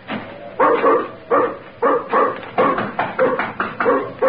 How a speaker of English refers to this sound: Get away, dog. Away or you'll be the first I've kicked.